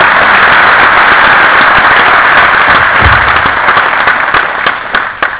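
An audience at the Faculty of Engineering, Khon Kaen University, claps loudly and steadily after a lecture, a dense crackle of many hands that holds for several seconds before thinning slightly near the end.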